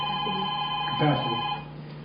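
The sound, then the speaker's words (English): A telephone rings with a steady electronic tone that cuts off partway through, with brief indistinct voices in the room around it. “I'm going to pull the plug on it. I don't know, which one is it, you know? The one that goes into the phone, at the bottom.”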